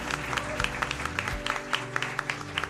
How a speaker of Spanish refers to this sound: Bueno, un aplauso para él, lo primero. Un aplauso para Fran, lo primero.